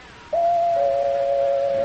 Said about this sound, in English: There's the doorbell, Sparky. Would you go see who it is, please, and save me a little trouble?